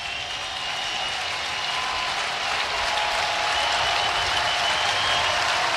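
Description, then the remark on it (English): A large crowd of Husker fans at a baseball game against the Bruins rises to its feet, cheering and applauding steadily, a dense wash of clapping and roaring voices that holds loud throughout and swells slightly toward the end. “Husker crowd to their feet once more.”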